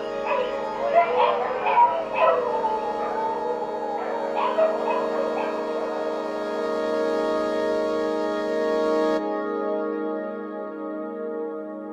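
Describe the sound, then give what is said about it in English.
Several dogs yelp and howl together in a sustained, wavering chorus, with sharper bursts of barking early on, before the sound cuts off abruptly and leaves a faint ringing tail. “The coquillas, of course. And the crickets. And the dogs.”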